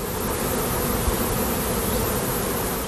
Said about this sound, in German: Brausen an Bienenstöcken.